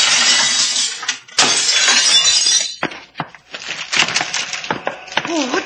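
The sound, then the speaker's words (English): Loud glass shattering in two heavy crashes as a machine is smashed, followed by scattered clinks and smaller impacts of falling shards and debris. “Watch out for the flying glass, sailor.”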